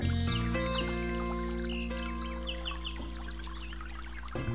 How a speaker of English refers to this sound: And yonder, in the deep shade of overhanging foliage and vines, a divine place for waiting. Sonically, we have the interplay between the brook itself and the bird song, and it's really an uplifting experience.